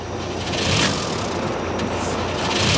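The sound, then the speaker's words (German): A boat engine cranks loudly, a continuous rough mechanical churning that never catches and settles into a running rhythm, failing to start because its spark plug has been removed. No voices are heard. “Der Motor springt nicht an.”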